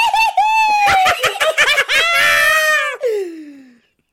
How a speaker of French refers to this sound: d'autres encore qui voulaient simplement sauter partout en poussant des cris bizarres.